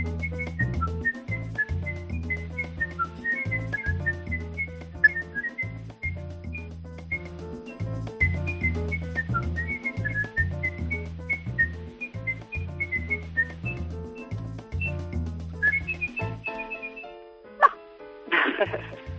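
A person whistles a jingle, a bright melody with several tones sounding at once, over a steady, pulsing low rhythm played from a loudspeaker, running continuously before ending in a short, noisy flourish. No one speaks.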